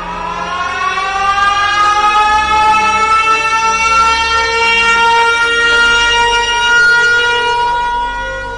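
Sirens wail continuously in a store, their rising tones sweeping upward and holding loud and steady for several seconds, with a faint low rumble beneath and no voices.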